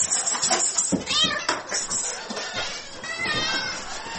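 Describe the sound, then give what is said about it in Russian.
Several domestic cats of a cat theatre troupe meow, their rising and falling cries overlapping in a busy, continuous chorus that barely pauses over about four seconds. “Первую кошечку, рыженькую лису, Володе подарила сестра.”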